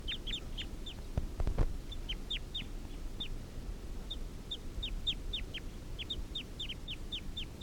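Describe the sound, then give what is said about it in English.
A wild male fowl gives a long series of short, sharp, downward clucking calls, repeated quickly in loose bursts over a steady low outdoor rumble, with a few brief thumps early on. “These are the calls of that one wild male.”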